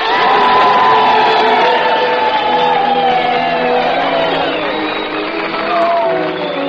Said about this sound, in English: And now, how about some well-deserved whistles, cheers, and applause for the Dean of American Music, ….